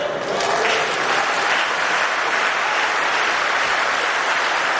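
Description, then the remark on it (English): Sustained applause from a large crowd of partisan supporters clapping for a political speaker, a dense, steady wash of clapping at constant loudness throughout, with no voices standing out. “And of course, the crowd of partisan hack barking seals claps in the hopes that he'll throw them a mackerel.”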